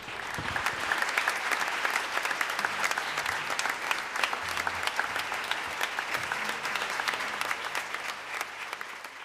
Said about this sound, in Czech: Potlesk si nezasloužím.